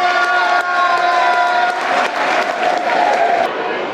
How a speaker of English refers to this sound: Good applause for Ojo, you can hear it.